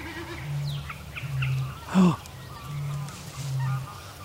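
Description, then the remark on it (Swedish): Low, humming bleats of a drumming snipe, made by air resistance as it spreads its tail feathers, come in four even bursts, two close pairs separated by a brief louder note, with no talking. “Antagligen allt efter hur den vrider stjärten och hur det här ljudet uppstår av luftmotståndet när den spänner ut stjärtpennorna.”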